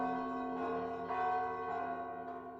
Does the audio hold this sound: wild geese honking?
no